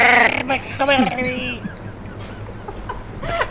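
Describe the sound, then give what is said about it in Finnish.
A person voices a few harsh, raspy caws in quick succession, mimicking crows, loud, followed by quieter scattered squawks and background noise. “Saako varisten äänen näytettä tässä vaiheessa?”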